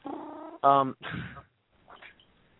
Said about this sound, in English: I really did hear him say something. A cat talked on this show. Wow. He said it again.